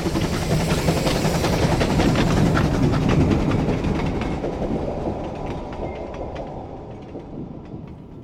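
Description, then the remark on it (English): A troop train hurtles past on the tracks at Kirkpatrick, watched by the signalman, loud at first with a rumbling rush and rhythmic clatter of wheels, then gradually fading away. “He watches the troop train hurtle past.”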